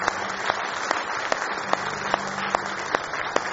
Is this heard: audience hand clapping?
yes